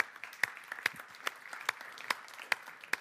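Audience applause with scattered, sharp claps in an uneven patter over a soft wash of clapping, fairly quiet and steady throughout, with no voices.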